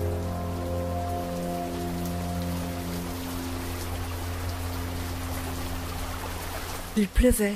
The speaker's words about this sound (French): Il pleuvait et il pleuvait encore.